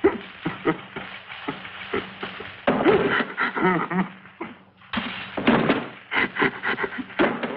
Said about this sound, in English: As the vampires keep beating on his front door, Morgan wrings his hands.